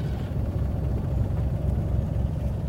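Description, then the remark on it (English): A helicopter's rotor thrums steadily with a deep, pulsing low rumble, fairly loud and continuous throughout, with no voices, as the helicopter flies off at dawn after setting down a car it carried suspended beneath it onto dusty ground. “Turok wakes up as the car lands heavily on dusty ground. The chopper flies off, and he gets out.”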